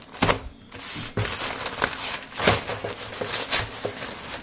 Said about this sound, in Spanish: Un ruido como el que produce una hoja de papel al rozar en el suelo hace que cerca de medio centenar de ojos se vuelvan hacia la puerta.